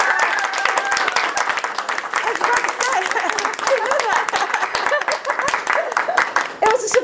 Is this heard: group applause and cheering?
yes